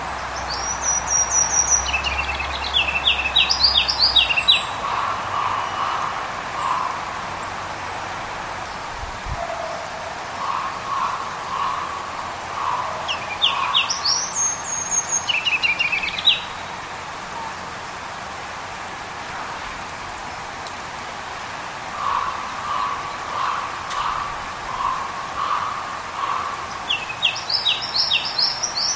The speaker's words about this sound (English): That was another version of a ruby-crowned kinglet. And one of the things I've noticed as over the years as I have become more proficient at identifying birds by their songs is that now I am interested in the variation that occurs in the song.